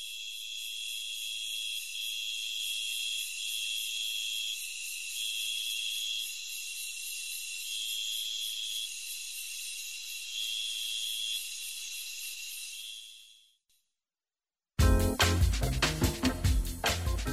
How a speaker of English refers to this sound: To take us out, the two-spotted tree cricket.